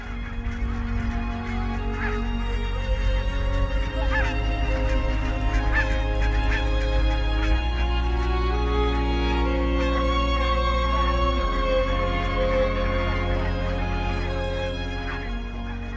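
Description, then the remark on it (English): A large flock of wild geese honking continuously at Kalaverick Wetland Centre near Dumfries, a dense overlapping chorus of calls with some individual honks standing out, steady and loud throughout. “Wonderful, evocative sound of the geese there at Kalaverick Wetland Centre, near Dumfries.”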